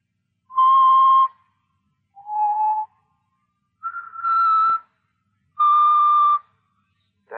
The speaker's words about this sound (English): That song. Did you ever hear it before? Yeah. Bet you did. He's always whistling it.